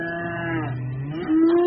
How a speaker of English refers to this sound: The cows live in that field.